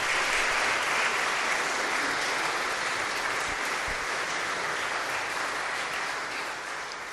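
A crowd claps steadily for about seven seconds, a dense, continuous wash of applause that holds loud throughout and eases only slightly at the end, with no voices rising above it.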